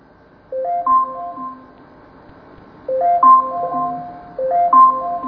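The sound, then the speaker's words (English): An Alexa smart speaker's camera timer alarm rings out in repeating bursts of bright electronic chime notes, three melodic phrases separated by short pauses, clear with no talking. “And that's the alarm.”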